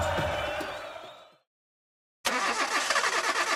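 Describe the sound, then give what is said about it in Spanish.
A car engine rumbles and fades away, then after a short silence roars back loudly and keeps running steadily and dense, with no voices over it. “¿Quieres que tu carro dure más, que corra más suave y que rinda mejor? Tranquilo, estoy hablando de tu motor.”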